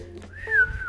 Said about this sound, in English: Can you whistle in? Can you go like...